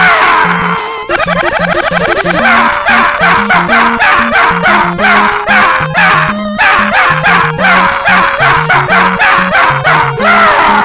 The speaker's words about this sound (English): Stop barking.